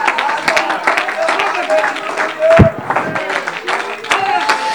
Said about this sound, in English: Oh, clap your hands, all you people, and shout unto God with a voice of triumph.